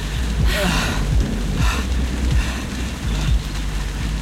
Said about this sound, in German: So, hier hocken wir uns hin. Zumindest schützt uns das Blätterdach ein wenig vor dem Regen.